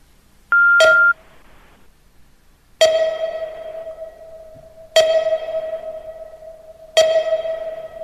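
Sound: telephone dialing tones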